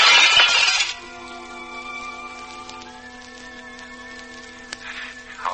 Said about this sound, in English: All right, you've smashed the mirror